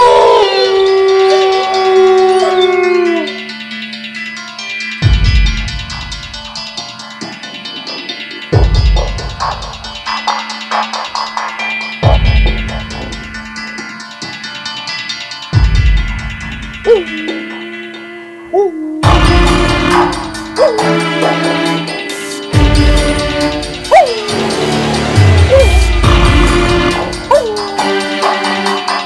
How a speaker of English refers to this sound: Let's put her to bed with a little werewolf action.